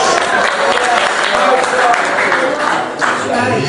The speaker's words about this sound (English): I hear you applauding.